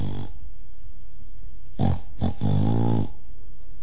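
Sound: voice imitating snoring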